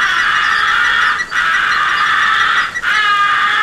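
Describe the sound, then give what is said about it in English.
A crow call blown with a finger placed in its muzzle to muffle it, used on crows within 80 yards, giving a muffled, nasal tone: three long, drawn-out notes separated by brief breaths, loud and steady, with no talking. “When crows are within 80 yards and until you shoot at them, muffle your call by placing your most convenient finger into the muzzle”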